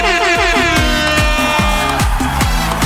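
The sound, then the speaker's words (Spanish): A loud, brassy air horn blasts in a rapid series of stuttering bursts with a repeating thumping beat underneath, like a DJ air horn drop in reggaeton, dominant with no talking. “Oye, tengo en la bocina de reggaetón ahora gracias a mi auditora favorita.”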